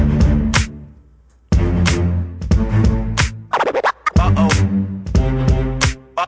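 A music track kicks off with loud, punchy beats and sharp, stuttering scratch-like hits, briefly dropping out before the full groove returns with steady bass and bright synth tones, no singing yet.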